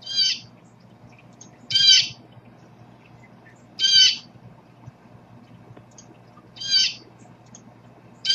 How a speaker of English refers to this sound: Before we talk about Jemima, let's hear the common call of a blue jay.